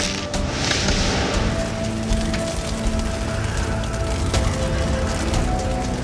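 Hail rattles densely and steadily across a slate castle roof, sharp clattering impacts over a low, constant rush of wind, loud, with no one speaking.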